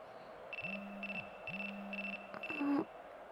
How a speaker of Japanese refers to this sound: 電話ですか？彼氏からかも。はい、後で出ますから。